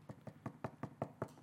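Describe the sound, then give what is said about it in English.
A quick, steady series of about eight knocks on a door, evenly spaced and fairly soft, with no voices. “Knocking at the door of your heart.”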